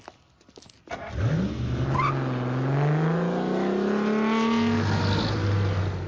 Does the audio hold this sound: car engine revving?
yes